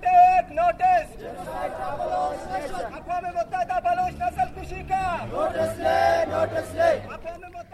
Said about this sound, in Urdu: لاپتہ افراد کے رشتہ داروں نے وائس فار مسنگ پرسنز کے زیر اہتمام کوئٹہ شہر میں ایک ریلی نکالی. ریلی کے شرکا نے شہر کے مختلف شاہراہوں کا گشت کیا اور اس موقع پر اپنے مطالبات کے حق میں نعرے لگائے.